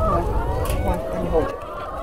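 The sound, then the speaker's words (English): A hen clucks in a steady, low murmur of short throaty notes that runs unbroken for the full two seconds at a moderate level. “You kind of walk with the hen, you don't walk with the other, you know.”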